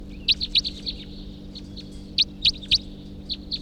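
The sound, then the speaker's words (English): A male wild bird calls from his tree in short, high-pitched chirps, a quick burst of four or five notes, then a pause, then another cluster of sharp notes over a low steady hum. “It could just be that male is calling now from his tree.”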